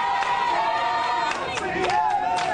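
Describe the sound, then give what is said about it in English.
A large protest crowd in Charlotte, North Carolina, on the fourth night of protests following the police shooting death of Keith Lamont Scott, shouts and chants together in a steady, loud roar, with several voices rising in pitched yells above the overlapping voices. “A fourth night of protests in Charlotte, North Carolina, following the police shooting death of Keith Lamont Scott.”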